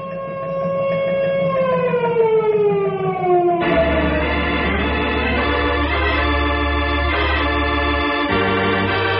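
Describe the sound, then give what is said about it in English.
A loud wailing disaster alarm siren, sounded as a tornado heads down the valley, its tone sliding slowly downward, then shifts to a steady, dense blaring alarm with a low droning hum underneath, continuing without pause. “Henry, sound the disaster alarm.”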